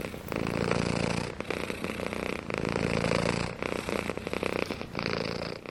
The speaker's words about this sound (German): Was ich wirklich liebe, ist, wenn das Kätzchen schnurren.